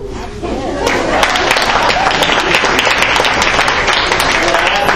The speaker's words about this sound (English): One better way to show that Eagle spirit than with a hearty cheer? And who better to lead us than the Canutillo High School cheerleading squad?